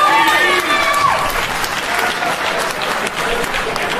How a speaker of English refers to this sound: You hear them punk ass claps? Yeah. Don't nobody believe in you.